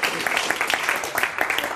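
A crowd claps steadily for the performers of a skit, a dense continuous patter of many hands at an even loudness throughout, with no single clap standing out.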